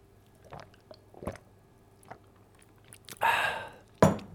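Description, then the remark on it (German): Small wet clicks and mouth sounds, then a broad, noisy gulp or swallow and a final sharp wet burst, like someone taking a sip of water; no talking. “Ich brauche erstmal ganz kurz einen Schluck Wasser, Leute, eine Sekunde.”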